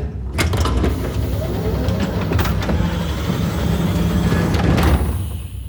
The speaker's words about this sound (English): Elevator arrived.